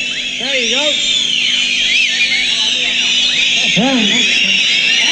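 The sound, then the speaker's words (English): An audience whistles together when asked to by the performers on stage, many overlapping high-pitched tones sliding up and down in arcs, loud and continuous, with a murmur of voices underneath. “So, okay, so you can whistle.”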